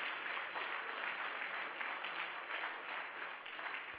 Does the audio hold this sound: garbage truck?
no